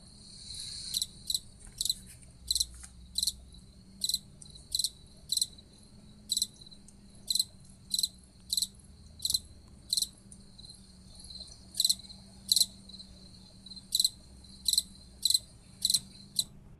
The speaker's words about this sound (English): I have a feeling by now, by the third passage, you would have guessed that was a cricket. This is called the April Chirper, and we're going to listen to the April Chirper song one more time.